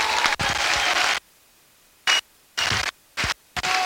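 Loud crowd applause fills the Plaça de la Vila in Sitges, Catalonia, as the Sitges volunteer firefighters arrive, a dense wash of clapping that cuts off abruptly and returns in several short bursts separated by near-silent gaps.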